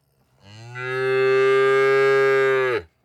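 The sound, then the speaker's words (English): A farmer's cow, just around the corner, lets out a single long, loud moo, rising in over half a second, holding a steady low pitch for about two seconds, then cutting off sharply. No one speaks. “Big Ted, look, it's a cow standing with someone.”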